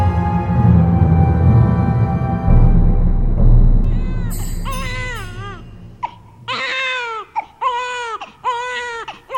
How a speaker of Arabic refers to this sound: إنه لا يكف أبدا عن البكاء، لعله يود أن تمسح عليه بيدك ليهدأ.